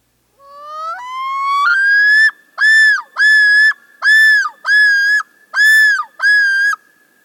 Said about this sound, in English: And then there's the yodel, given as the male loon's territorial call, a far-carrying series of repeated phrases.